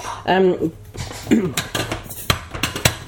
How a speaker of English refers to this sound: Oh, I'm opening the wrong caddy now. Oh dear.